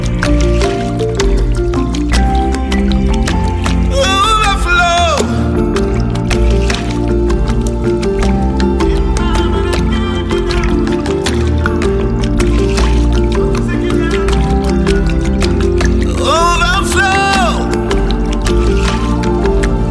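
Steady flowing, dripping water over a continuous droning backdrop, with two rising gurgling swoops like liquid pouring into a vessel, all at an even, fairly loud level.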